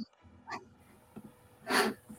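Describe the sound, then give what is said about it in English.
Heavy, close-miked breathing: a short breath, then a louder, longer rush of air about a second later, with no talking around it. “I can hear someone breathing heavily.”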